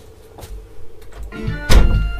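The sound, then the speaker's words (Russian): A door swings shut with a single solid thunk, loud, preceded by faint shuffling and creaking as it moves, then settling into a low rumble. “Закрой музычку, эту дверь, там звуки всякие”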